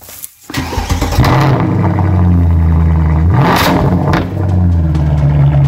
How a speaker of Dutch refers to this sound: Ja, het is een Mercedes. Joh. Maar de vraag is, welke? Ah. Weet je welke auto er zojuist is gestart hier in de showroom?